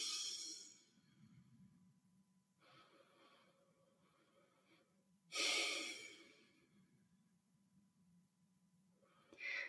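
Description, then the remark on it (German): Slow, deep breathing of a person sitting upright: three long inhale-exhale cycles with audible airy rushes and quiet pauses between them, no talking. “Ja, und dann atme einfach dreimal tief ein und aus.”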